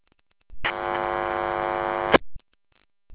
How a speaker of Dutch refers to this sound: er komt alleen maar een lichte bron en verder geen modulatie. Dus daar gaat iets niet goed.